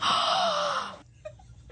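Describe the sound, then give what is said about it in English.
A single loud, breathy inhale lasts about a second with a slight wheezy edge, then gives way to near silence broken by a couple of faint clicks. “That's not a voice. That's just breathing.”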